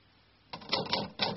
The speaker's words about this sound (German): Was tut sie jetzt? Tippt sie? Ja. Ja, sie tippt.